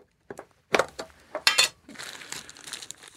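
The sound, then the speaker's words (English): A plastic bag crinkles and rustles in several sharp bursts, then settles into a steadier, softer crackling as the bag is ripped open to get at the package inside. No one speaks. “I got to rip this open. It's a plastic bag.”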